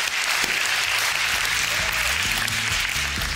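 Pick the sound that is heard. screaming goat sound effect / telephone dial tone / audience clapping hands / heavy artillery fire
audience clapping hands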